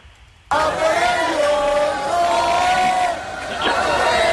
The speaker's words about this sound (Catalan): aquestes cançons de A Por Ellos, dels manifestants, sirenes i trets al carrer